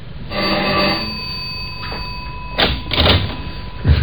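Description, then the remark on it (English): The doorbell of a third-floor apartment in Haven Mews, London gives one buzzing, bell-like ring lasting about a second, followed by a few dull knocks and thumps, with no one speaking. “Ring the doorbell.”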